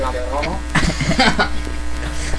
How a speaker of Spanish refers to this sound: Una abeja.